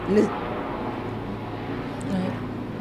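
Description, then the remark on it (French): An airplane passes overhead over Mermoz as a steady, broad roar that holds level for a few seconds and swells slightly near the end, with faint bits of voice underneath. “Ça faisait longtemps que je n'ai plus entendu des avions traverser Mermoz.”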